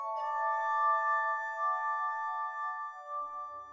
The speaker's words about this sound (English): He'd gather patients in a room decorated with celestial symbols, with glass harmonica music filling the air.